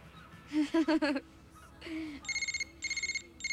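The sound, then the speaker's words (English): A red cell phone rings with rapid, warbling trills in two close bursts, following a few short voiced sounds from a person. The ring is fairly loud. “She grabs a red cell phone, then looks serious. Hello? Yes, I'll be right in.”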